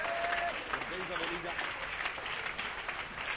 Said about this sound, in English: One more time, give a clap offering to Jesus. He deserves all the glory and the honor.